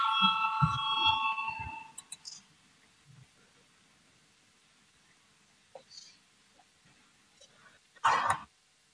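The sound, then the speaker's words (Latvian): A parliament voting bell rings with a steady, bright electronic tone for about two seconds, calling a vote on proposal 158. Near-silence follows, broken by a few soft clicks and a short, louder rustling burst near the end. “Lūdzu, zvanu balsosim par 158. deputāta Valājuma priekšlikumu.”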